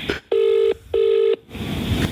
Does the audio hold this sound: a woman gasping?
no